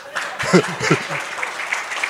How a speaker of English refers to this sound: Clap!